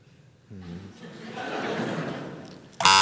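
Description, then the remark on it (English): A mute swan gives a short nasal honk, then a long, rough, breathy rasp, ending in a sudden loud harsh burst. “It was a moot swan.”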